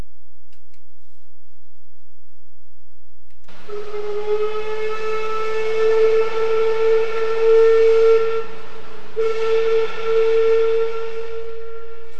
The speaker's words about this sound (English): That's the sound that people near downtown Petersburg heard yesterday afternoon between 2:30 and 3 o'clock. Petersburg Fisheries Incorporated was blowing a whistle signifying that the fish processing plant had reached 100,000 cases of canned salmon.